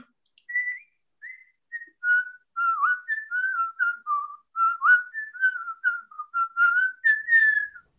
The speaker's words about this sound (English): Oh my. Perfect. You guys, I'm serious. So I am impressed. I'm going to whistle on command. That was beautiful, really. Bravo, bravo.